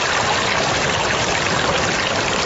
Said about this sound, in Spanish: De este sonido solo queda el recuerdo. Esta, por ejemplo, es una grabación del mes de enero de 2015, aun cuando corría una delgada línea de agua. Para abril ya se había evaporado.